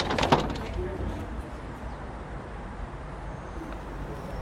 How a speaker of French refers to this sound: La porte qui s'ouvre est la porte qui s'ouvre vers la pharmacie et son comptoir